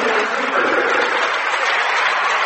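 A crowd applauding a Ripley Blue Jays post player late in the fourth quarter of a Botkins versus Ripley basketball game: steady, dense clapping that holds at an even loudness throughout, with no voices standing out above it.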